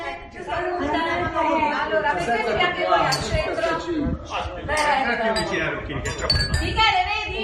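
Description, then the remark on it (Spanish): A lively crowd of neighbours chatters and calls out together from their homes facing each other across a street in Italy, with a few bright glass clinks ringing through the hubbub as a toast is shared. “¿Has oído el brindis? Sí, sí, sí. Se oye perfectamente.”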